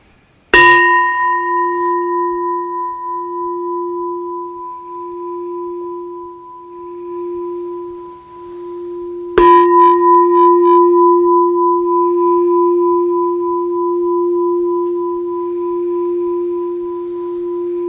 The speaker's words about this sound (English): And we mark the end of a practice period with three bells. See if you can hear each bell all the way through.